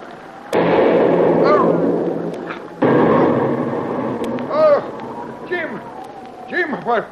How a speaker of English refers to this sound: What happened? The concussion from that last shell knocked you down, that's all.